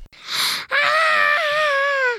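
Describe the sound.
A voice imitates a guttural scream: a short, harsh breathy rasp, then a loud, sustained, strained cry lasting over a second that holds steady and sags slightly in pitch before cutting off.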